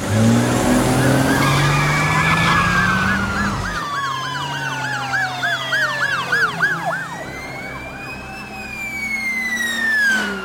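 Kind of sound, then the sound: vehicle, car engine roaring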